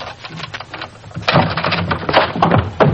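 Police put a key in the lock of a hotel room door: it rattles and scrapes with scattered metallic clicks, then a louder clatter as the door is worked open, followed by rustling and knocking.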